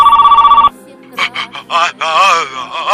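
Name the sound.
telephone ringing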